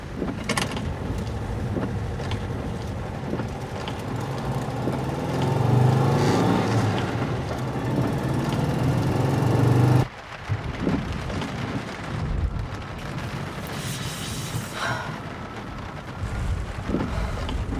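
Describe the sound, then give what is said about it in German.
Heavy storm noise roars around a car in a freezing cold storm, with frost forming on the windows, a dense rumbling wash of wind and rain that swells loudly, then cuts abruptly and continues at a slightly lower, gusting level. No one speaks. “Ich bin jetzt mitten im Sturm. Mittendrin. Das Auto, das hat bisher ganz gut dagegen gehalten und war gerüstet, aber es wird immer schlimmer.”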